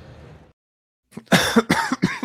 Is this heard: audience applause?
no